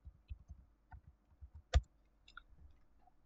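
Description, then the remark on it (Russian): A run of soft, irregular keyboard keystrokes as a password is typed to log into a Linux machine, about a dozen quick taps over a few seconds, with one sharper, louder key press midway; fairly quiet, no talking. “О, похоже, я неправильно ввел пароль.”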